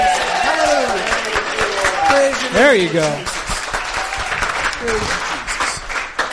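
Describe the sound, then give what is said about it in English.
An audience bursts into sustained applause mixed with cheering and whoops, giving the Lord a cheer, dense rapid clapping throughout, while a voice speaks briefly over the noise. “Come on, give the Lord a cheer, huh?”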